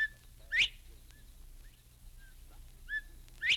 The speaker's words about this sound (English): That was the whistle of a bobwhite quail. The bobwhite is Florida's favorite game bird.